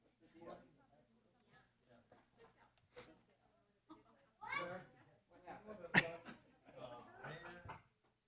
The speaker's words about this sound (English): This little toddler in the back row snacking on popcorn. Being funny.